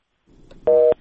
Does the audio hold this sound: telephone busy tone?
yes